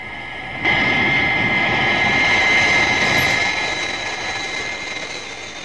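A jet engine roars in with a sudden onset as the aircraft reaches Mach 5.3 and its maximum altitude, holding a steady, dense rumble with a piercing high-pitched whine layered over it, then gradually easing slightly in loudness toward the end.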